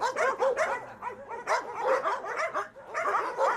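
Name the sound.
large dogs barking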